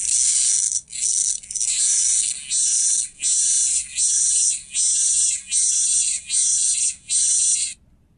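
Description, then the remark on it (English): A locust's raspy call: about ten loud, harsh, high-pitched buzzing pulses in a steady rhythm, each under a second with short gaps, heard alone before it stops abruptly. “Listeners, that is the raspy sound of a locust.”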